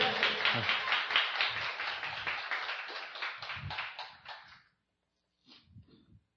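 A crowd breaks into steady, dense applause that holds strong for about four seconds, then tapers off and stops, followed by a short faint sound after a pause.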